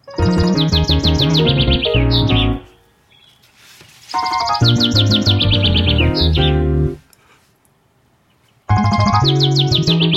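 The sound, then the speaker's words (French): A nightingale's rapid, trilling song, added to a musical arrangement, rings out over a deep bass line, arriving in three loud bursts separated by short near-silent pauses. “Et voilà l'entrée de la basse.”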